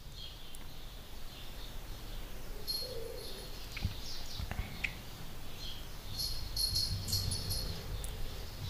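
Faint birdsong from outdoors, brief high chirps and twitters appearing now and then over a steady low background hiss, with a few soft clicks and knocks and no one talking.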